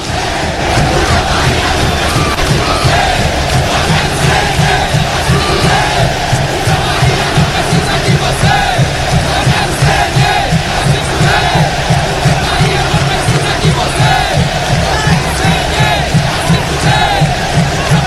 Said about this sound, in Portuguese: Agora sim, apita o árbitro! Meu Deus! Bahia 0, Santos 2. Ouça as vaias. Meu Deus!